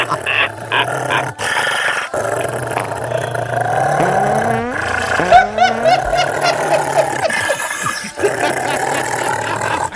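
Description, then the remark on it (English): A dog barks loudly, a frantic run of harsh barks mixed with growling and snarling that carries on for the whole stretch with barely a pause. “Stop the dog. The dog's too loud.”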